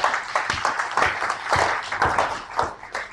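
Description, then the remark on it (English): A church crowd claps for a man whom the pastor praises for sharing his faith. Dense, overlapping handclaps sharpen into several louder bursts, then fade slightly toward the end. “Give him a hand.”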